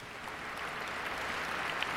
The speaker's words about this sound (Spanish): Aquí, otra vez le aplauden.